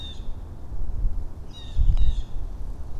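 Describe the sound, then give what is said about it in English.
Small birds give a few short, squawky calls, one near the start and a cluster midway, over a low rumble of wind outdoors. “I can hear some little squawky birds.”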